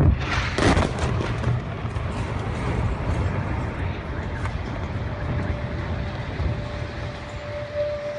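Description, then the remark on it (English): Bombing explosions: a sharp blast at the start, then a continuous heavy, low rumbling roar of booms that stays loud and dense throughout. “My son Yusuf calls the bombings fireworks.”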